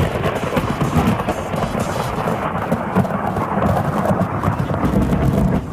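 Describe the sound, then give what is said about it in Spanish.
A continuous, heavy rumble of thunder rolls on without pause, deep and loud, with a steady wash of rain hissing underneath throughout. “Son así más o menos los truenos que escucharon ustedes.”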